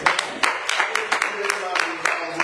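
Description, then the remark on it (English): Scattered hand claps from an audience applauding the dads who saved the day, sharp irregular slaps overlapping into a loose patter of applause, with murmuring voices underneath. “Clap your hands for all the daddies that saved the day.”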